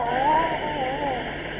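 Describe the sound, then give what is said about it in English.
A bucket of cologne is poured over someone: liquid gushes out in a steady, rushing pour for over a second, a continuous splashing hiss with a faint wavering tone running through it, fairly loud and muffled. “And now I'll pour cologne on you.”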